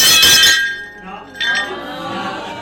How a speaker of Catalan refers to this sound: Aquest efecte de plat trencat em torna una mica loco, perquè no sé si acaba de trencar-se aquest plat.